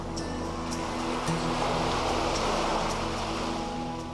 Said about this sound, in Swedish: Hur känns det när du befinner dig på din strand och hör vågorna slå och upplever havet och naturen runt omkring?